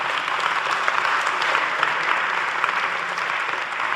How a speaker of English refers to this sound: So I need someone who's fairly tall as a volunteer, please. Okay, very good. Your hand was straight up there. Very good. Well done. Can we give my friend here a round of applause?